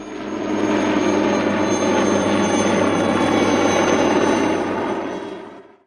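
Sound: helicopter rotor flying overhead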